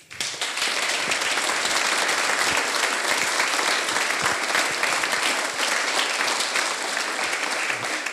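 An audience applauds steadily at a Kultursommer event held in a cellar, a dense wash of many hands clapping at a loud, even level throughout with no pauses and no voices standing out.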